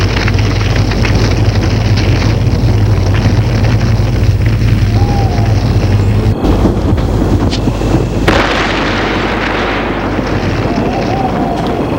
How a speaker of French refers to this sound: je l'ai reconnu. Une explosion.